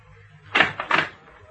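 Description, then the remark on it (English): A door that is on the latch opens in two quick, rough bursts of noise, about a third of a second apart, over a quiet low hum. The sound is moderately loud and no one speaks. “The door's on the latch.”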